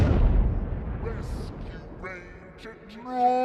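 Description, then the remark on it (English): A heavy cartoon cannon blast booms out at the start as Giant Pete fires his cannon arm at Chip and Dale, its low rumble trailing off, followed by the whooshing flight of a grinning cannonball and then voices chattering. “He turns his cannon arm to the chipmunks and a grinning cannonball flies.”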